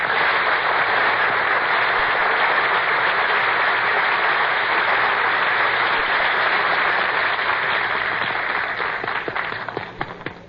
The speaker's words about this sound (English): Dooley, you're not supposed to applaud yourself. Mr. Announcer, I'm not applauding myself. I'm applauding because I know what's coming.